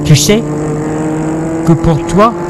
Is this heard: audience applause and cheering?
no